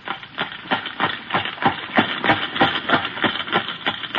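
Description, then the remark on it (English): Horse hooves clop along a street in a steady, even rhythm, about fifteen sharp knocking strikes over a few seconds at a constant moderate loudness, with no voices. “he knows it's a horse.”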